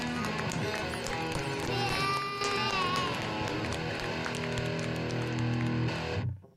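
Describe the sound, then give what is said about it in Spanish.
A burst of dense applause, steady and loud for about six seconds, mixed with sustained musical tones and a swelling chord, then cutting off abruptly at the end. “Qué grande esos aplausos.”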